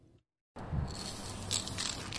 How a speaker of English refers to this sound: The smells and sounds of spray paint fill the air surrounding the vacant structure at the end of Tully Street, as two men paint thin blue lines while another paints a large pink alien holding a laser gun.